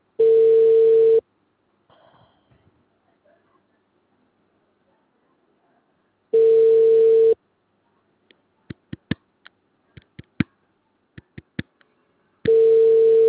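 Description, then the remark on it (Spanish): A telephone ringback tone sounds three times, each steady tone lasting about a second with long silent gaps, as a call to the caller's daughter rings unanswered. Faint clicks and taps fill one of the pauses. “No contesta la hija.”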